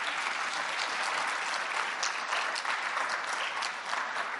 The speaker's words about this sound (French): Et je voudrais qu'on les applaudisse, d'une part.